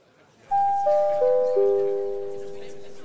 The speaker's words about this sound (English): Oh, there's the bell. So it's time to head back into our virtual house for Act Two.